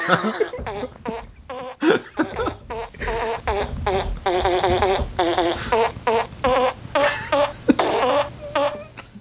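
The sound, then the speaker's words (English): A quick run of buzzy, pitched fart noises played like a melody on a keyboard as a piano solo in the middle of a song, hopping up and down in short bursts. Loud, with no talking. “Yeah, I've been thinking about doing a right in the middle, like right after the first bridge, doing like a fart piano solo.”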